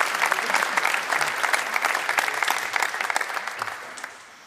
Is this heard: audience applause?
yes